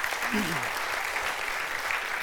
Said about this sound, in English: Now listen, yeah, you can applaud God's work, right?